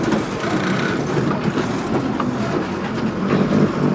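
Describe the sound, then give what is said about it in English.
A minibus engine rumbles steadily while the body rattles and clatters continuously as it jounces along a rough, narrow dirt path cut into a tall, steep mountainside, with no voices. “The minibus jounces along the rough path.”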